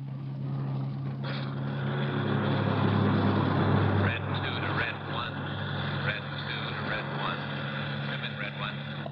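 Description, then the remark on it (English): A car's steady engine drone and road rumble as it cruises at speed along the Pacific Coast Highway, continuous throughout, with muffled voices faintly audible beneath the noise. “He drove out Sunset Boulevard to the Pacific Coast Highway and turned right. We drove for about 40 minutes.”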